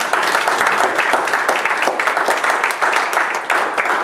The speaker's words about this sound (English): All right, give them a hand of applause.